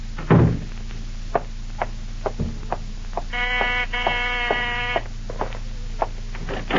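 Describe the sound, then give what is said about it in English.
A door is opened to let a visitor in, with a long, high creaking squeal of the hinges, preceded by a couple of dull thumps and clicks of the latch and handle, with no one talking. “Nina, let him in, please.”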